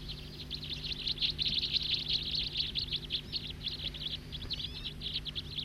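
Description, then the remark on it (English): A flock of small songbirds, including siskins, perched in trees around a ranger station parking lot, chatters continuously in a dense wash of high twittering calls and wheezy notes, fairly loud, with a low steady hum underneath and no talking. “One of those birds is singing, I believe.”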